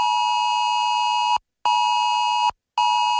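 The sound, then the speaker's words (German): A loud, piercing electronic emergency alert tone from many mobile phones on Germany's nationwide warning day (bundesweiter Warntag), 14 September, sounding in long sustained bursts separated by brief silent gaps, with no voices present. “So klingt's dann am Donnerstag in 2 Wochen wieder von vielen Handys.”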